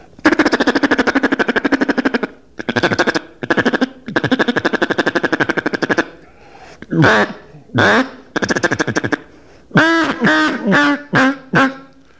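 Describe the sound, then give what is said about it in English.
Feeding chatter blown on a duck call, imitating feeding ducks: long bursts of rapid, buzzy clucking, then a handful of loud, nasal quacks in quick succession, with no other sounds. “And then all the time you're sitting by this rest area or this refuge, you'll hear this chatter going on that ducks are feeding.”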